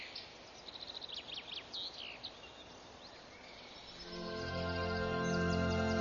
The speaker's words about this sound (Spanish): Los mirlos cantan desde las altas copas de los árboles. Las aves buscan insectos, larvas y orugas entre las hojas jóvenes.